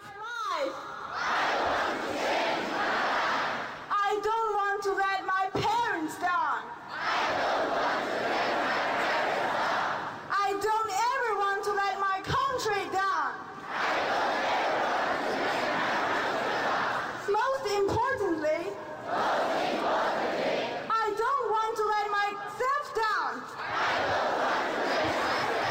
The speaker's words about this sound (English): Listen as Chinese students practice their English by screaming it.